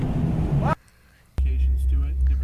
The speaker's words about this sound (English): God, listen to it. Yeah, it's a great engine that GM sells.